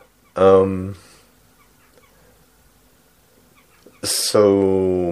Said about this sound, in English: Oh, you can hear the birds.